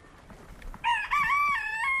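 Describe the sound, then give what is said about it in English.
Soft, scattered clucking gives way to a loud rooster crow that rings out for over a second, a drawn-out, wavering call with no voices present. “They're talking to each other. There's an interaction going on all the time.”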